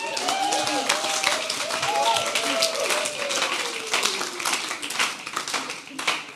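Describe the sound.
An audience claps steadily for several seconds as a person is called to the front, a dense crackle of many hands with a few voices calling out underneath, holding at an even loudness throughout.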